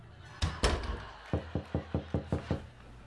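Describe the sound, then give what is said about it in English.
Two heavy, echoing bangs on an old garage door, knocked by a neighbour after no one answered the front door, followed by a quick, steady run of about seven sharp knocks, loud with no voices. “Hey neighbor, tried the front door, nobody answered, so I thought we'd give the old garage door a try, and there you are!”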